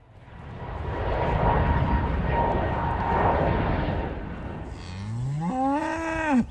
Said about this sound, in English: The cattle have checked in at Shannon. A herd of six Drummen, a native rare breed in Ireland, have been brought here as part of the airport's biodiversity enhancement project.